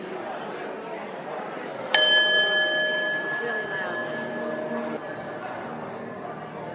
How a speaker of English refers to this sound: We'll ring the bell when we're ready to move on.